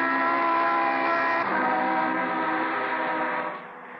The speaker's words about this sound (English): Then I looked in my rearview mirror again, and suddenly there it was. A car that ate up the distance between us as though we were attached by some invisible elastic that pulled us together. And then before I knew it...